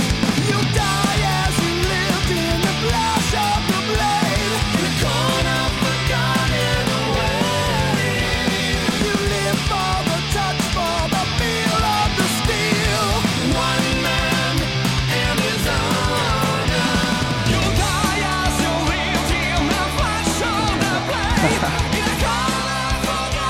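A death metal cover song plays as a dense, loud, unbroken wall of heavy music, holding steady intensity for the whole stretch with no talking over it.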